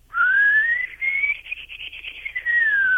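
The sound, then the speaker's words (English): A person whistles in imitation of a bird: a high, thin note that slides upward, breaks into a quick warbling flutter, then rises again, clear with no talking. “I mean, I go out there with my phone, and it's like it knows I got a phone, but it's a real high whistle. It starts out kind of low, and then it goes.”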